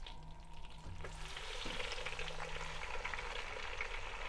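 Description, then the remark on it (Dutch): Chicken browning on all sides in butter in a pan, a steady sizzle of dense, fine crackling that swells louder partway through and keeps hissing without pause, with no voices. “We gaan hem aan alle kanten heel goed bruin aanbakken.”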